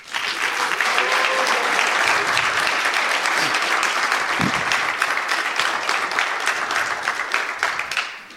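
A sustained round of audience applause, many hands clapping densely and steadily at a loud, even level for several seconds before tapering slightly at the end.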